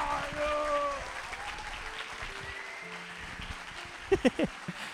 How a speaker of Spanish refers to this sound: Si van a aplaudir como cobarde, no aplaudan, aplaudan como valiente.